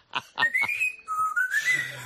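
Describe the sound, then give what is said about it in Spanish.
A pet parrot named Perico whistles a TV theme tune: a few quick chirpy notes, then a clear rising and falling whistled melody, bright and fairly loud, with no talking. “Oye, ¿has grabado alguna vez a tu loro cantando la sintonía?”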